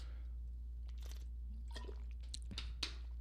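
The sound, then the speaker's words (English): Someone drinking water: a few soft, wet gulps and mouth clicks at the microphone over a steady low hum, with no talking. “Now, let me grab some water real quick.”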